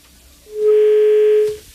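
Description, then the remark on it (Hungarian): A steady telephone dial tone on a radio call-in line hums for about a second, a single clean, loud, continuous note with no other sounds or voices, then it cuts off abruptly. “Nincs telefonáló. Pedig a fogyasztó az jó a rádiónak. Haló, haló.”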